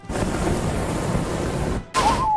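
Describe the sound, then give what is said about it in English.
A video game fire breath attack, the move "Fire Breath" chosen in a turn-based battle: a loud, steady roaring whoosh lasting almost two seconds that cuts off sharply, then a second noisy burst carrying a bright, wavering tone. “Choose a move. Fire Breath.”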